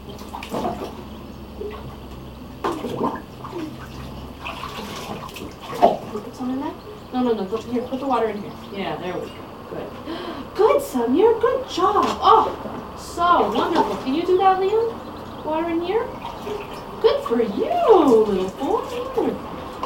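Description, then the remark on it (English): Water pours and splashes into a small white container with a steady hiss, running beneath voices that talk and babble throughout. “Put the water in the small white container, all right?”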